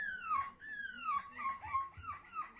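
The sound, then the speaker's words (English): A 9-year-old boy from Britain imitates a seagull at an annual seagull impression contest in Belgium, letting out a quick series of high, squealing cries that slide downward in pitch, fairly loud with no talking. “People trying to do the best seagull impression.”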